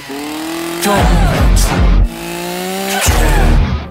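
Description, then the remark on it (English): Two loud chainsaw revs within a song, after a single synth stab, each a harsh, rising mechanical roar lasting about a second, with a brief gap between them and a faint voice underneath. “And then there's two chainsaw revs.”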